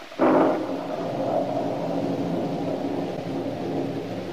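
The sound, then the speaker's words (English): A sudden crack of thunder gives way to a long, steady rolling rumble, loud, with a broad wash of storm noise sustained throughout and no voices. “As she turned and walked heavily upstairs to her room, the storm which had been gathering strength finally burst in all its fury.”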